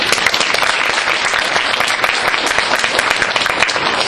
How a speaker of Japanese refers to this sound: それでは総会でございますので、議長を、通常選出ということになるんですが、できましたらこのまま、進行並びに、議長を私が務めさせていただければと思うんですが、ご承認いただける方は、拍手をお願いいたします。